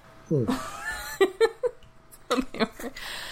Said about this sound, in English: Oh my goodness, my cats. I'm trying to shut my cats out of the office while I record, and they are not having it.